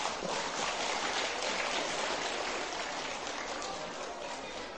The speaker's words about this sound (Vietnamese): Nếu nỗ lực vượt qua vấp ngã, ủng hộ người vấp ngã trở thành một con người mới là có thể thực hiện được, thì các cháu hãy dành một tràng vỗ tay thật lớn.